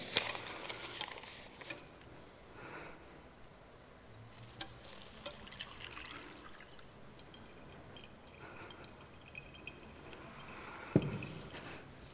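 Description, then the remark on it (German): Dirty water poured through a paper filter trickles and drips steadily into a clean glass as clean water comes out below, a soft continuous patter with scattered small plinks and one sharper tap near the end, quiet throughout with no voices. “Wie ihr seht, es kommt sauberes Wasser unten raus.”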